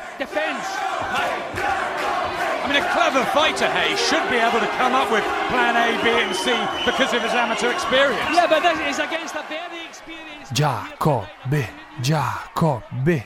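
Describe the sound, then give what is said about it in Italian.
A section of Italian fans at a boxing match, midway through the third round, shouts together in a loud, dense mass of overlapping voices for about ten seconds, then breaks off as a single voice calls out in short rhythmic bursts. “A metà del terzo si sente lo spicchio di tifosi italiani gridare.”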